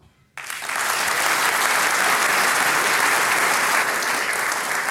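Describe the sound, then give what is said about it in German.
An audience breaks into sustained applause for musicians on stage, performers from Styria and Upper Austria, after a brief quiet start: a dense, steady wash of many hands clapping at full volume for several seconds with no talking over it. “Der größte Lohn für Musikanten ist neben dem Bier der Applaus.”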